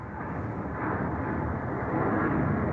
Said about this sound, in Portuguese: Vai passar um aviãozinho, vamos só deixar... Espero que não seja um avião já daqui.